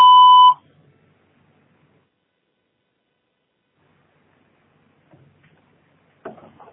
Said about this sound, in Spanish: Usted puede dejar un mensaje después del tono.